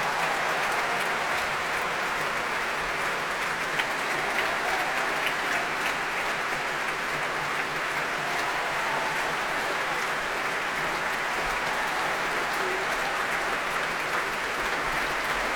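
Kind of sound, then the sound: crowd, concert audience applause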